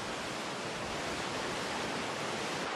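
A steady, dense roar of rushing water pours on without pause, like a cascading waterfall, broad and hissing with no voices present.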